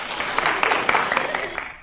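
An audience applauding, a dense, steady wash of many hands clapping at once with scattered sharper claps poking through, fairly loud and sustained for a couple of seconds without talk.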